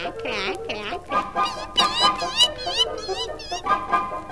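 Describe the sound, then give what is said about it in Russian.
A noisy poultry-yard chorus of geese and ducks honking and quacking over one another, with two duck families fighting over a fish head; dense overlapping calls with no pauses throughout. “Вскоре добрались и до птичьего двора. Ну и шум тут стоял, ну и гам.”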